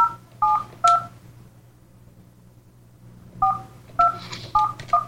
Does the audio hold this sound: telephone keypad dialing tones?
yes